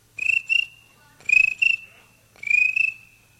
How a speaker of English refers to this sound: One cricket.